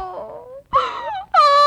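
A woman cries in three loud, wailing sobs, her voice wavering and sliding in pitch, with brief catches of breath between them and no words.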